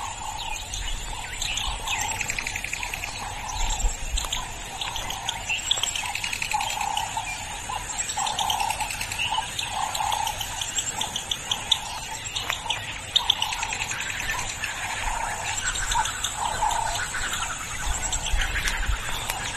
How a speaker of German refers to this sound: Ja, dieses Vogelgezwitscher. Das war schön, immer damit irgendwie ein bisschen geweckt zu werden.